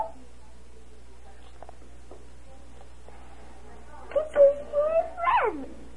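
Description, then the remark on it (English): A dog gives a few short, high-pitched whimpers near the end, whining sounds that rise and fall in pitch, following a quiet stretch with only faint background noise. “This is my doggy.”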